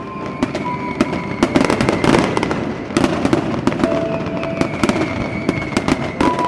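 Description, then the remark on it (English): Fireworks over Hudson Bay, watched from countless boats during a rededication of the monument, burst in rapid, overlapping volleys of sharp cracks and booms, loud and continuous over a dense background rumble, with faint sustained whistling tones running through the barrage. “He filled it with friends and family, and they joined the countless other vessels in Hudson Bay, enjoying the fireworks.”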